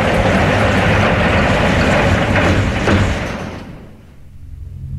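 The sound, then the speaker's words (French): A door slides shut once everyone is inside, with a steady rushing, rumbling sound, a sharp knock near the end, then the noise cuts off to near quiet. It is fairly loud, with no voices. “Ça y est, ils sont tous à l'intérieur. Alors fermez la porte.”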